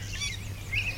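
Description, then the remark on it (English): A yellow warbler sings a few quick, high, sweet whistled notes, the brightest phrase near the end, over a steady low background hum. “and now there's something weird calling. It was a yellow warbler.”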